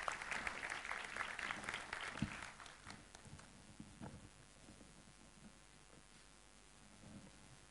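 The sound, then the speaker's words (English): On an early Friday morning, an audience breaks into a dense burst of clapping for a volunteer from the audience for about three seconds, then the applause thins out and fades into a quieter, scattered patter and murmur. “Big round of applause.”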